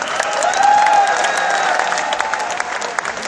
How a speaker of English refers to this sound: Thank you. How about some nice applause for the boy and the guys here?